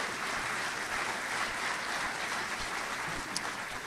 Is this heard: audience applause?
yes